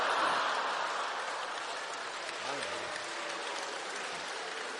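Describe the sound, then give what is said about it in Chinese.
An audience breaks into steady applause, a dense wash of many hands clapping at a fairly even level throughout, with a brief murmur of voices rising under it midway. “行行，朋友们，您先别鼓掌了。”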